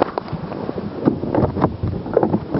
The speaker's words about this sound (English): Okay, what you're listening to now is me putting the PDA on my belt.